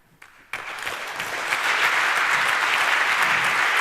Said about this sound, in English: I would say let's hear a warm round of applause for this guy.